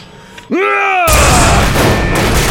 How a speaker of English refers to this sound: The energy beam vaporized the lock and blew the whole door inwards, tearing the door right off its hinges. Even at its lowest setting, the energy beam had still plunged on across the office to blow up one of the security monitors on the far wall.